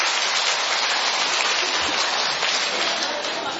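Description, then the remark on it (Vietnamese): A crowd applauds with steady, dense clapping that holds at an even, fairly loud level for several seconds, a continuous crackling wash with no voices standing out. “Cho một chàng vỗ tay đi thưa anh chị em.”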